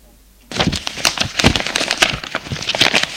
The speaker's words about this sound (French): Stéphane compte les feuilles.